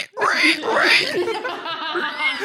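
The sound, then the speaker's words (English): A person imitates a pig squealing, a loud vocal imitation with two rising, high-pitched shrieks followed by a wavering, nasal tail lasting a couple of seconds. “I was actually just doing a pig impression”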